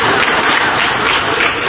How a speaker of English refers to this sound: You guys are going to applaud for yourself?